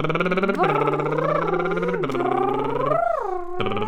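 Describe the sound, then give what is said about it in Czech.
During a vocal exercise, a voice imitates a car shifting gears with a buzzing lip trill, its pitch climbing and then dropping abruptly several times at different tones. The sound is steady and continuous, with no words. “Řazení, různé tóny.”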